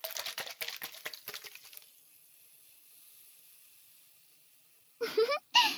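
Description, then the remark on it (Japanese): A dense, crackling fizz of many tiny bubbles constantly popping in a colorless, transparent, odorless newly discovered medicinal liquid, thinning after a couple of seconds into a soft steady hiss, then a voice briefly speaks at the end. “見た目の特徴は、常に細かい気泡が弾けているところね。”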